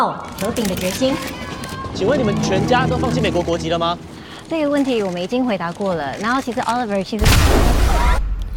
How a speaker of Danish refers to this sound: Ja, så kom der en eksplosion i den trailer. Sådan lyder optakten til den kinesiske invasion af Taiwan